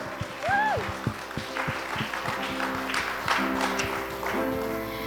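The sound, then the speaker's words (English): An audience claps steadily for about five seconds as a round of applause to God after a worship song, a dense crackling wash of hands, with a brief rising whoop early on and a sustained, low musical drone held underneath. “Let's give a round of applause to God.”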